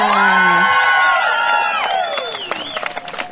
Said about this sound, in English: Can I please get a round of applause for Tikana Whana?